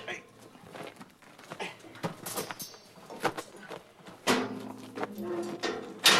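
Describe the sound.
A metal gate door scrapes and clatters as it lifts open, with a grinding creak partway through and a few sharp knocks, while voices murmur in the background.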